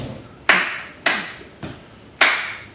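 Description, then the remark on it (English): An audience stomps and claps a steady beat, a stomp on one and claps on two and three, four sharp hits about half a second apart, each ringing briefly, with no voices. “But right now, I want you to give you a stomp on one and a clap on two and three.”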